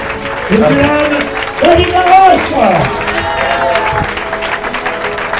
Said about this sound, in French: Applaudissez-vous vous-même! Applaudissez-vous vous-même! Tournez-vous, applaudissez-vous!